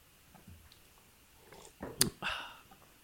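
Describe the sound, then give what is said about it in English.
A sip of a hot buttered Fireball cinnamon whisky drink, a brief wet slurp followed by a short breathy exhale. “But now I'm having a sip of my fireball.”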